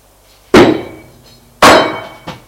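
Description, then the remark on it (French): A heavy bronze statuette, taken from a chest of drawers and thrown with full force at a man, strikes with two loud, sharp impacts about a second apart, each ringing briefly with a metallic clang, followed by a softer knock as the man falls head first against the door. No one speaks. “Alors, il prend une statuette en bronze qui est là sur la commode. Il la lui jette de tout son poids.”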